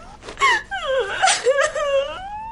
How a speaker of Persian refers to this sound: پدر بزرگت که حالش خوب شده، واسه چی گریه میکنی؟ واسه اون گریه نمی کنم که، واسه یه چیز دیگه گریه میکنم.